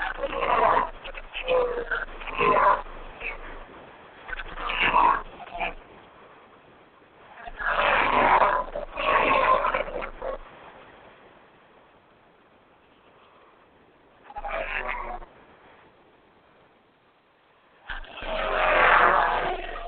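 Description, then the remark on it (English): Race cars roar past on the Road America track, picked up by a microphone placed on the track, in a series of loud, rising-and-fading bursts, a few seconds each, with quieter gaps between passes; no one speaks. “And you can hear them coming up. We're going to put the microphone on the track.”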